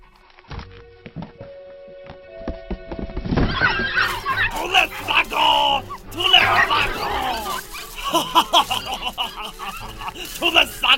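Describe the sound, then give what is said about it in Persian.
After a quiet few seconds with faint tones, a crowd of puppies breaks into high-pitched yipping and whimpering, overlapping cries that stay fairly loud to the end. “یه عالمه طول سگ رو منن.”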